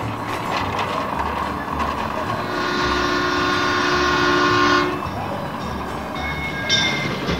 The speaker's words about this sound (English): In fact, you might even hear a train whistle while you're on the historic walking tour.